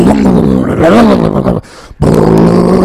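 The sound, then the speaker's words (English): A voice loudly imitates a Shelby GT500 Mustang engine firing up and revving, a gravelly, rumbling growl with wavering pitch, breaking off briefly before a second sustained roar. “You know what I'm talking about, Tommy Chong, when you fire up a Shelby GT500, and you hear that.”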